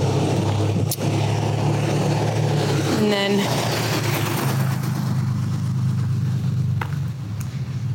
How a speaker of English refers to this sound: I may have to edit that out, but we'll see how it sounds. That's loud. That was a loud truck. I think they need a muffler. And boy, that smelled.